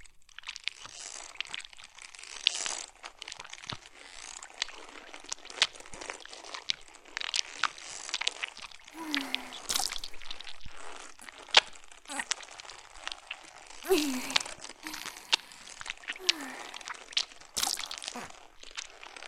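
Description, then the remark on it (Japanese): Continuous wet, crunchy scraping, with irregular bursts of crackling and squelching as the belly of a corpse is cut open and its insides are gouged and carved out, no voices present. “ずるずる削り出していくわね。”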